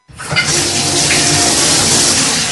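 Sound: water running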